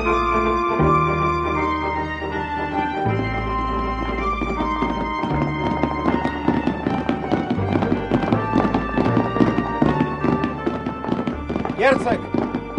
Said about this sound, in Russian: Темно, ничего не видно. Слышу топот двух коней.